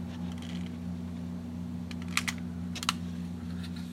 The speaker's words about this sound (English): Then he places some wood in the front and crumples up a few flour bags to start the fire. Light the match now. paper on fire.